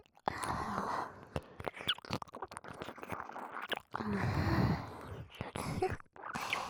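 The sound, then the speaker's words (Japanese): Wet ear-licking and smacking sounds mixed with heavy, breathy exhales, continuing in an uneven rhythm with a dense, airy texture and occasional soft squishy clicks. “こうやって吐息たっぷりに舐められるのがいいんですよね。”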